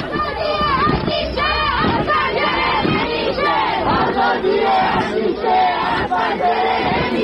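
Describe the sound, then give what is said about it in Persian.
A large crowd in Ekbatan, Tehran, chants a protest slogan together at night, many voices shouting in loud, rhythmic unison that rises and falls steadily for several seconds without a break. “و بترسید و بلرزید از روزی که اونایی که میترسن و هنوز از پشت پنجره ها دارن با چشم های نگران اعتراض دیگران رو نگاه میکنن، این شعار دیشب بچه های اکباتان تهران رو لبیک بگن.”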